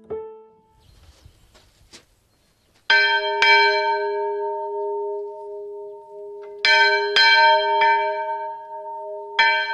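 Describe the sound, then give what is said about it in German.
A small church bell hanging outside the small church at the Diesdorf open-air museum, rung by pulling a long rope, clangs in uneven pairs of strikes, each ringing out with a long, bright overlapping hum, loud after a few seconds of faint rustling. “So klingt die Glocke, die außen an der kleinen Kirche im Freilandmuseum Diesdorf hängt. Dafür zieht Jochen Hofmann an einem langen Seil.”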